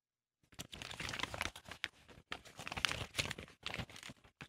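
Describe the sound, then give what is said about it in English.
Pages of a magazine, Street and Smith's College Football, rustle and crinkle as they are handled, a steady run of dry, papery scrapes and crackles in irregular bursts, with brief pauses and no voices. “I've got a magazine as well.”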